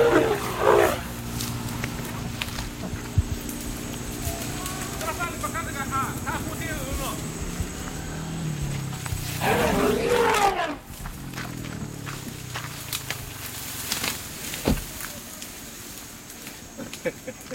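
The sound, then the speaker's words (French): The larger of two elephants by a roadside roars loudly as it charges the people recording it. There is a sharp blast at the start and a longer, harsher bellow midway, over a rumbling background with faint human voices. “Lorsque le plus grand, se sentant menacé par ce qu'il prend pour une arme, entreprend de nous charger.”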